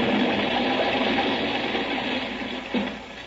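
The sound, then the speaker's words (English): A steady, loud roaring rocket-jet sound effect, invented by Ora for the radio science fiction show Buck Rogers, rumbling and hissing without a break, then easing slightly toward the end after a brief surge. “Radio's very first science fiction radio show took off with jets that Ora invented.”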